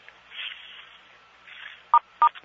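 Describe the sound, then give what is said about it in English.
Two short telephone keypad tones, star then six, pressed to remute a phone line, beep in quick succession after a stretch of faint line hiss. No one speaks. “There's somebody who's repeating what was just said that I think you need to remute, star 6.”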